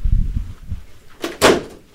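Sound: door being opened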